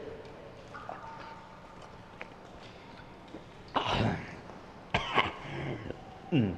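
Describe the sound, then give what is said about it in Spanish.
Harsh, rasping coughs break out in three loud bursts over a quiet, murmuring background, each fit made of several rough hacks close together, the last one cut short. “Esta tos no es nada, no me matará, ¿verdad?”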